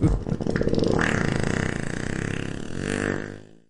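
A long, drawn-out fart sound effect: a loud, buzzy, sputtering rumble with rapid pulsing and wavering pitch that holds steady for over three seconds before trailing off.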